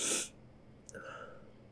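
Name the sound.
sneeze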